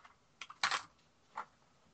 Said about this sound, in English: The sounds of loose Who cards. Okay, let's go through my loose ones first.